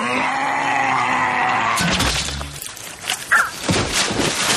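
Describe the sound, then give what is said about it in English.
A drawn-out, high, strained squeak of a crossbow's spring action gives way to a loud crash and a heavy, dull thud of a body hitting the ground like a sack of potatoes, followed by scattered crackling and rattling debris. “Do you hear the spring action? The boom. Yeah. Thing? And then the pause and sack of potatoes hits the ground.”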